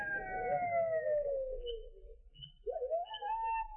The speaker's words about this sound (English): I don't hear nothing except them coyotes howling.